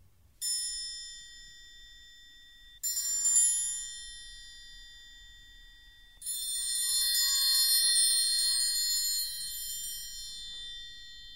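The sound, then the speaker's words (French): A metal triangle rings out with two separate strikes that shimmer and decay, followed by a rapid, sustained roll that builds a bright, continuous jingling before fading slightly. “On peut battre le triangle par coups séparés, mais aussi par roulement.”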